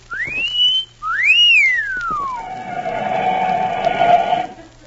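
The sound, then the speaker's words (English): A person whistles two loud sliding notes: a quick upward sweep, then a second rise that glides long and slowly downward, trailing into a breathy, fading tone with no talking. “No, I was just whistling to entertain myself.”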